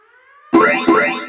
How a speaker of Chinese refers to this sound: 警报，侦测到敌方行动，请开始第一阶段。